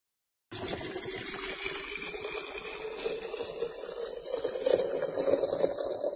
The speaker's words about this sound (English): When the water is boiling, add the water to the teapot.